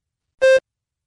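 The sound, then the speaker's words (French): A single short electronic tone beep, steady and clear, lasting about a fifth of a second, heard alone against silence; the signal tone of an AP French language and culture oral exam recording, cueing those using a cassette to start rewinding. “Si vous utilisez une cassette, à la tonalité, commencez à rembobiner l'enregistrement.”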